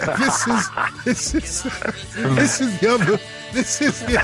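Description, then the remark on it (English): Voices hum a bouncy melody in a hum-off, wordless and continuous for a few seconds, the pitch rising and falling in short arched phrases. “We're having a hum off.”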